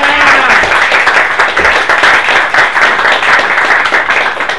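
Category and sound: crowd, round of applause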